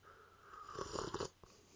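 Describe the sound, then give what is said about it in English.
A quiet slurping sip of hot cocoa from a mug on a cold, wintry Christmas Eve evening, lasting about half a second, airy and wet, followed by a brief soft click like the mug being lowered. “But before we begin, I want to take a little bit of sip from my hot cocoa here, just a minute.”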